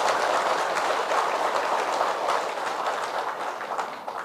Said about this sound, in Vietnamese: Hãy cho một tràng vỗ tay thật lớn để nỗ lực làm việc này.